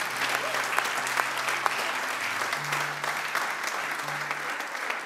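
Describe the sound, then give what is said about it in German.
A crowd applauds steadily at a church service for those who decided today to follow Jesus: dense clapping filling the whole stretch with a few sharper individual claps, while a low sustained musical tone hums underneath. “Hey, komm, lass uns mal einen Applaus geben für diejenigen, die hier heute entschieden haben, Jesus nachzufolgen.”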